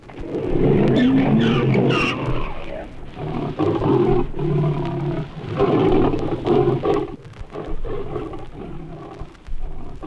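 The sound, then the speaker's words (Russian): A lion roars and snarls loudly while a Grevy's zebra gives harsh, braying cries in an unexpected encounter, the two animals clashing in a tense, noisy confrontation that continues throughout. “Запись неожиданной встречи зебры Грэви со львом.”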